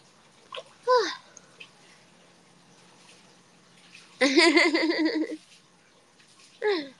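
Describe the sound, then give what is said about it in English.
A steady, soft rush of hot spring (onsen) water pours into a small one-person bathtub throughout, while brief bursts of playful vocalizing and babbling rise over the running water. “Oh, the spring water feels really nice coming out.”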